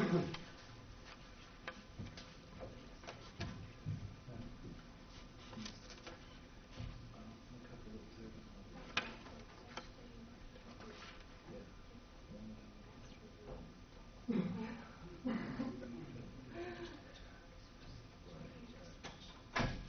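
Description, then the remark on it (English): Several sharp clicks and knocks as a front door's lock and latch are worked to lock it, among soft footsteps and faint background noise, with some muffled voices in the background. “I'm going to go lock that front door.”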